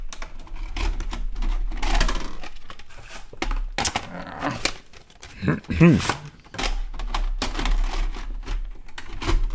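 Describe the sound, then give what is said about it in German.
Sharp mechanical clicks and clatter of a cassette tape being ejected and swapped in a player, with irregular handling noises and a few brief vocal sounds in between. “Aber apropos Kassette, ich muss jetzt die Kassette wechseln, sonst können wir mit dem nächsten Film nicht anfangen.”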